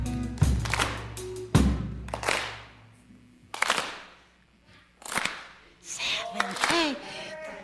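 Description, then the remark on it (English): An audience claps together in a slow, steady beat without any music, a soul clap, each loud unison clap ringing out with reverberation, with a voice shouting over the clapping near the end. “Hey, that's a soul clap.”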